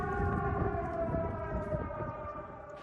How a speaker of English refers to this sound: The west of the country has seen some high-profile attacks since the Russian invasion began, but Lviv was spared the worst of the violence. Warning sirens likely to be taken more seriously now.